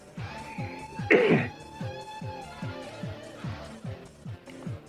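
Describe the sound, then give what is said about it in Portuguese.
A single sharp cough bursts out loudly about a second in, standing above a steady background of soft rhythmic thumps and sustained tones that continue throughout. “Ele queria mutar na tosse, tá, queridos ouvintes?”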